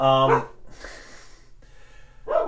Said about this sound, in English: Yes, that's Libby and Hildy, everybody. Our dogs. There's something going on outside of the house. It's probably someone walking their child, and how dare someone walk their child in front of our house, yes.